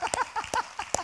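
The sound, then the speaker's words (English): Three sharp, evenly spaced claps ring out about half a second apart, fairly loud, with faint voices murmuring between them. “You clap anyway.”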